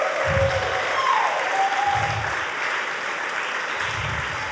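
An audience claps in a sustained, dense round of applause, loud and steady throughout, with a few brief whistles or whoops rising above the clapping.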